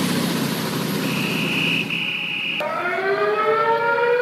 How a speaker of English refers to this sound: There's your sirens. Yeah, that's not authorities. No, that's Antifa and other thugs. Down, it's midnight. We the people need sleep.